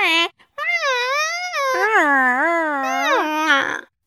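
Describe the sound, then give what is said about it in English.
A man's voice imitates a yowling stepped-on cat or a crying baby: a short yelp, then a loud, high, wavering wail that slides up and down in pitch for several seconds. “that every time he's caught in a lie, he makes a sound like someone stepping on a cat or a baby crying.”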